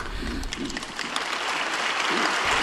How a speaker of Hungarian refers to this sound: És már is tapsal válaszol a Szent Atya köszöntésére a 6. pálteremben jelenlevő hívők, zarándokok közössége.